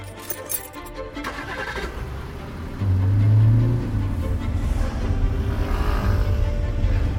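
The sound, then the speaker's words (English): A car engine cranks and catches, then settles into a steady low rumble that rises briefly as it revs before idling on. No one speaks. “I'm going to get my gear together and get in the car.”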